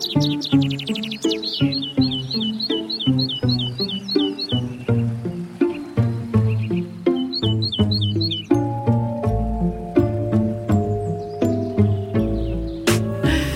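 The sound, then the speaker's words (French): Common chaffinch song: bright, rapid series of chirping notes in two bursts, clear, heard over a steady plucked musical accompaniment that continues throughout. “Tenez, écoutez-le, celui-là. Le pinson des arbres, on vous l'offre.”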